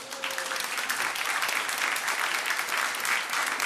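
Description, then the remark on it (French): An audience in Bordeaux, at the Cité du Vin, applauds steadily, a dense, even patter of many hands clapping at once, sustained throughout with no voices rising above it. “Et le public bordelais, vous allez l'entendre, il va applaudir dans un instant pour bien prouver sa présence.”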